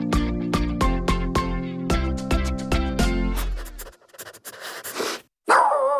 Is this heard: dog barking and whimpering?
yes